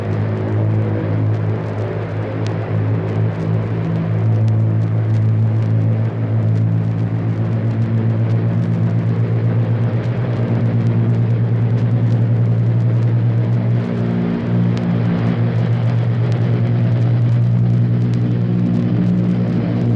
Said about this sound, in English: our microphone is open, ready to record the sound of your 10 engines as you pull up to it, pass it, and get off the ground to start a practice mission of thousands of miles, a mission that will keep you in the air for 36 hours.